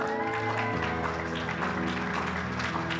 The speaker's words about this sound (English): We can do better than that. Give her a round of applause.